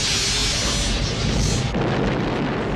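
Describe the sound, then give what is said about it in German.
A loud sci-fi spaceship battle explosion: a dense, roaring blast that rumbles continuously for nearly three seconds, its hiss shifting and darkening partway through, with no voices. “Auch bei Raumschiff Enterprise macht der Weltraum Krach.”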